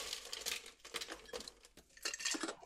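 Ice being chopped into crushed ice for a cocktail: a run of crunchy, crackling hits in an irregular rhythm, fairly quiet, with no one talking.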